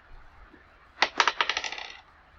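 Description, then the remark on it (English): Dice clatter across a table, rolled for an arrow attack in a tabletop role-playing game, in a quick burst of sharp, bright clicks that bounce faster and softer before settling within about a second. No one speaks over it. “Ooh, good roll.”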